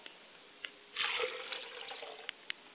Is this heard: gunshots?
no